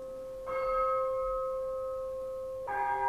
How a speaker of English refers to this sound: And so you're supposed to be hearing these bells tolling in the distance. And so you run off stage and you play these, and then you've got like maybe a minute or so to get back on stage and keep playing.